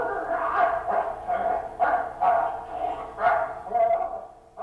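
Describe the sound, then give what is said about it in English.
A man's voice imitates a dog, letting out a series of short, fairly loud barks and yips in an uneven rhythm, with brief pauses between them and no other talk, played from a videotape inside a wolf's head exhibit attached to a terrarium. “a catoptric camera attached to a terrarium inviting me into a wolf's head with a videotape of a man barking inside the wolf's mind.”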